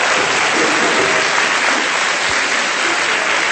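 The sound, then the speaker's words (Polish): A crowd applauds steadily, dense overlapping claps forming a loud, continuous wash of sound that holds evenly for several seconds with no voices on top. “Fajnie, że klaszczą wszyscy.”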